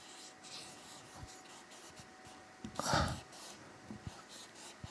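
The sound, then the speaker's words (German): Quiet scratchy strokes of a pen on a surface, with soft taps and one louder brushing scrape near the middle, with no talking. “Ich muss das noch ein bisschen üben mit diesen Stiften, das ist nicht so einfach.”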